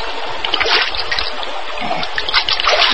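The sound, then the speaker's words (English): A stream trickles and burbles steadily, a continuous wash of flowing water with small splashy bubbles and no voices. “Then, staggering slightly, he walked slowly to a nearby stream. Then, lying prone on the bank, sipped the cool water.”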